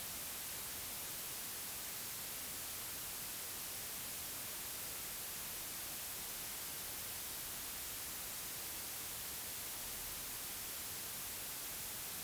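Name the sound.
white noise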